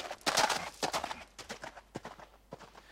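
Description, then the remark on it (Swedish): Horse hooves gallop in quick, uneven clusters of sharp clops, loud at first, then growing slightly softer as the horse is ridden off toward the mountains. No voices. “han blev så förkrossad så att till sist så kastade han sig upp på sin häst och red bort till bergen någonstans och gömde sig.”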